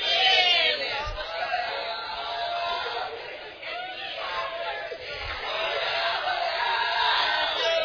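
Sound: church audience shouting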